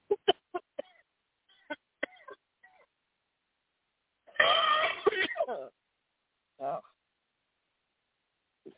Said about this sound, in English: Okay, I just heard you do a cough or two. So right now you are getting delivered as we are doing these renunciations. So if you feel like you need to give a cough, just let it out. Don't hold back.